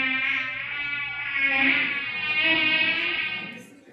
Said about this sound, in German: Die Mücke. Hört man auch nicht so gern.